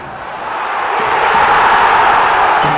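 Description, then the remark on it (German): A large stadium crowd of football fans roars in celebration after a goal in a match between Arminia and Aue, a dense, continuous wall of cheering that swells louder over a few seconds, with no individual voices standing out. “Und kaum hatte sich der Jubel nach dem Tor gelegt, da hatten die Fans schon wieder Grund zum Jubeln.”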